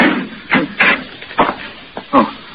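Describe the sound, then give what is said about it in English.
Several heavy, irregular blows thud against a locked door with a spring lock, about five in quick uneven succession, over a steady background hiss with no voices. “I rang the buzzer and pounded on the door, but no one came”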